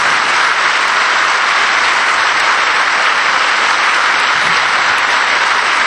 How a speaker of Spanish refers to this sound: Pues vamos a darle entre todos, allá donde quiera estar, que seguro que es en un sitio privilegiado, una fuerte ovación y después vamos a guardar un minuto de silencio. ¡Esa ovación para Sebastián!